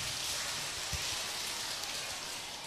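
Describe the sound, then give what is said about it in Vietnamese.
Children clap together when a teacher calls for a big round of applause, a dense, steady patter of many hands that holds at an even, fairly loud level for a few seconds, with no voices over it. “Rồi cho một tràng vỗ tay thật lớn nào.”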